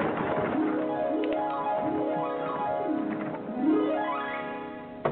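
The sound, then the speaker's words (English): A pigeon coos and flies, with a steady run of warbling calls, each one swooping up and down in pitch, fairly loud, with no voices over it. “Hurriedly strapping on a fresh pigeon, I flew out the window.”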